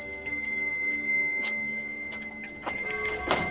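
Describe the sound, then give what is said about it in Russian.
A front doorbell rings on a very frosty, sunny Sunday morning in December, with a bright, sustained metallic tone that slowly fades, then sounds again in a second loud ring near the end. No one speaks. “Однажды в воскресенье, положим, в очень морозное солнечное утро, раздается в ее передний звонок.”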